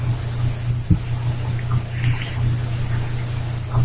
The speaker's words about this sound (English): I turn the water to almost as hot as it goes. And I run the water over you, massaging you and playing with your hair as I spray you with the head of the shower.